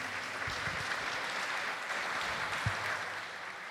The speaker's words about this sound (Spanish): Aplausitos, aplausitos a las niñas.